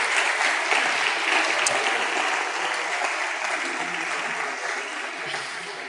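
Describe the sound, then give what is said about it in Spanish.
Sustained crowd applause, a dense wash of many hands clapping at steady loudness for several seconds, easing slightly toward the end with no voices standing out, as a chosen audience member receives a painting as a gift. “Así que un fuerte aplauso y las sugieres me ayudarán, por favor.”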